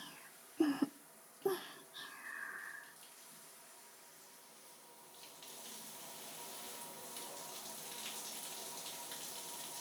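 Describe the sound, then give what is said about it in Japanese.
A couple of sharp knocks, then after a few seconds a shower starts, its steady hiss of spraying water running fairly soft until the end. “一仕事終えた後のシャワーもいいものだね。”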